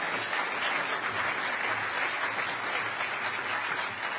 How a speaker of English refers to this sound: So everybody give Aesthetics, one of the organizers, a really huge round of applause for taking over at the last minute.